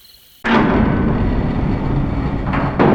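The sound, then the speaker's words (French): A door is kicked in with a sudden loud crash after brief quiet, followed by a sustained heavy rumbling clatter and a second forceful burst near the end. “Maintenant, tu défonces la porte.”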